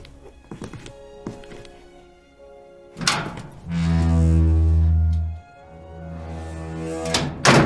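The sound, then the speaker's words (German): A door bangs shut with a heavy thud after a few light knocks and clunks, followed by a loud, steady low hum lasting a couple of seconds, then more rattling and another thump. “Ja, pass auf, ich dachte, da hinten ist so eine geheime Tür.”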